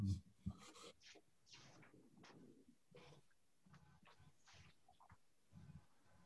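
A pen scratches across paper in quick, irregular strokes, fairly quiet, continuing for several seconds after a couple of soft bumps at the start; no one speaks.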